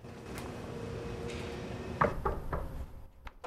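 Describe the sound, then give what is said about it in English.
A door opens: a sharp latch click, then a few quieter knocks and rattles as it swings, over a steady low background hum. “Matt hesitates, then reaches out to the door.”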